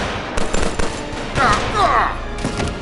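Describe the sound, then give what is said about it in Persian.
A volley of gunfire: several sharp, loud shots crack out in quick, irregular bursts, with brief whistling, ricochet-like tones in the middle and faint voices mixed underneath. “نه نه نه نه نه نه، صبر کنید، دیگه تیراندازی نکنید، به روش خودم حلش میکنم.”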